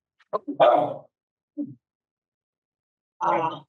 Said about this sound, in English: And if you can hear my dog, I am so sorry. It's hard to concentrate with her running amok.